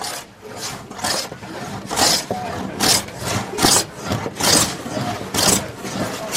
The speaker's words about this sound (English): It's early in the morning, but the vocational training center at Berur village is bustling with people. Those sawing and planing planks are learning carpentry